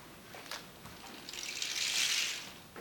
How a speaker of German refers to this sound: Schon fern kaum noch zu hören Regen.